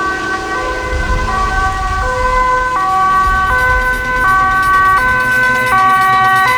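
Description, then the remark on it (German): An approaching fire engine siren blares steadily, its two tones alternating in a repeating high-low pattern, with a low traffic rumble underneath and no voices. “Die Feuerwehr kommt.”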